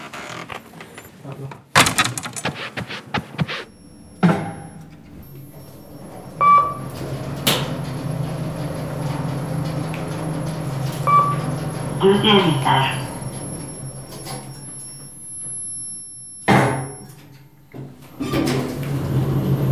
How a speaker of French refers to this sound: La porte est ouverte.